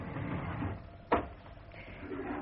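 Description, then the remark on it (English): A drawer holding newspaper cuttings about a trial is pulled open with a single sharp wooden clunk midway, surrounded by a low, steady background rumble and faint shuffling. “In this drawer.”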